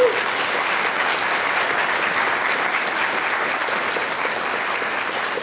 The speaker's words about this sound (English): So I think that's worthy of another round of applause.